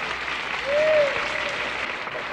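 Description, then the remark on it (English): A large audience at a live music show in Town Hall claps steadily, the dense applause at a strong, even level, swelling briefly near the middle, with a faint tone sliding through underneath. “And thanks for that applause.”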